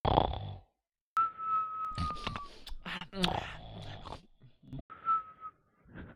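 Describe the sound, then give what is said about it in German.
Short snoring breaths from a man sleeping with his headset on in a voice chat, some carrying a thin whistling wheeze, in several uneven bursts separated by brief silences. “Das reicht nicht vom, von der Zeit her, der atmet zu kurz.”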